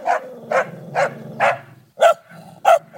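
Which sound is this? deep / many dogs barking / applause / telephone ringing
many dogs barking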